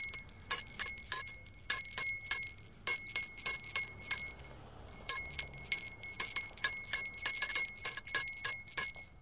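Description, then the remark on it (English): A Christmas charity bell ringer rings a handbell steadily in a rhythmic, tune-like pattern of quick, bright strikes, pausing briefly midway before resuming, with faint low background rumble and no talking. “Different bell ringers have different styles, and I came out last year, and I just picked up a tune, and I just have a lot of different tunes I play because we're out here for so long.”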